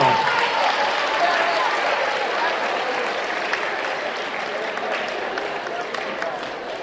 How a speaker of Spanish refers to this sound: Un aplauso para el muchacho que dijo castidad. Mire, bravo.